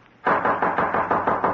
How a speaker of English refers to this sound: Suddenly, a loud knocking at his door startled him.